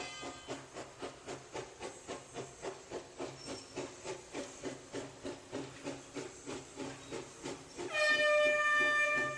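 Hissing steam bursts chuff in a steady, rapid rhythm from a locomotive, then a loud, sustained steam train whistle blows over the final seconds. No one speaks.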